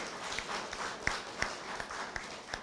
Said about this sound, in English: I give you a warm applause for that.